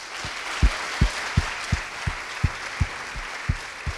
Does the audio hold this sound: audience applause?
yes